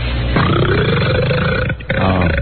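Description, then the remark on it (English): A long, loud, deep belch rumbles on for a couple of seconds, breaks off briefly, then continues in a low, gravelly drawl. No one speaks over it. “Listen, if you killed your wife, just burp again.”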